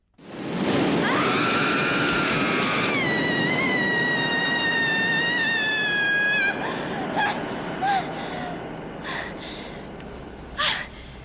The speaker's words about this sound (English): That is the sound of Sally Bowles, played by Liza Minnelli in the film Cabaret, screaming under a bridge.